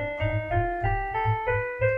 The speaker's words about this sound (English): But then you also have minor scales, which sound like this.